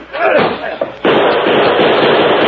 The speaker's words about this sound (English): Him shoot through door.